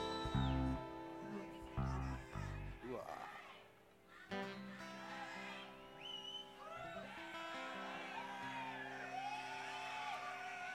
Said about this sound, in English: This is dedicated to whoever yelled that just now.